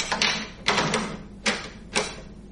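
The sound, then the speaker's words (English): A series of sharp metallic clicks and clunks, about four or five spaced across a couple of seconds, like a key turning in a lock, followed by a door being opened; the door opens onto a closet. “Here's the lock. Put it in. Turn it now.”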